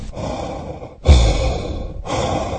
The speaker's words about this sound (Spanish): Después de 3 llamadas perdidas, decidió contestar. Al principio solo se escuchaba una respiración agitada.